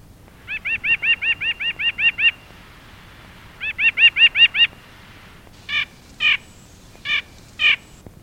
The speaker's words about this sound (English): White-breasted nuthatch.